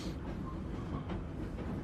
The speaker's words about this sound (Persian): یه قطار داره میاد.